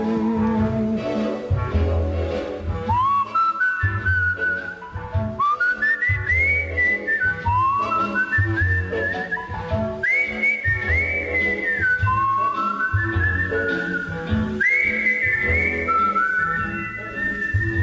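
A bright, clear whistled melody, whistled by someone other than the song's singer, rises and falls in sustained phrases over a steady, rhythmic musical accompaniment with a thumping low beat, loud throughout.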